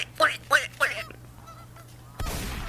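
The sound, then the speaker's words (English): A duck gives three loud, nasal quacks in quick, even succession, followed by a short lull and then a sudden rush of broad, noisy rumble. “Welcome back to another duck sound ASMR.”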